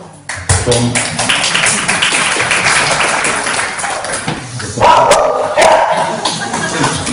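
A dog barks repeatedly amid a steady wash of crowd applause, the barking growing more prominent toward the end while the clapping continues underneath.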